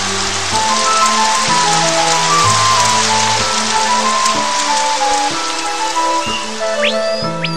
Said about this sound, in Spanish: La lluvia no paraba de caer. Con mis gotitas dejo el bosque empapado.